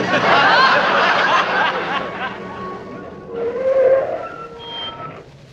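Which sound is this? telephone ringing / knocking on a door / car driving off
car driving off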